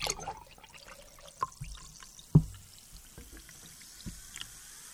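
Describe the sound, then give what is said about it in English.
A fizzy drink pours into a glass, with a faint fizzy crackle and scattered small pops and clinks, fairly quiet overall with one sharper knock midway. “I heard a little of the fizz.”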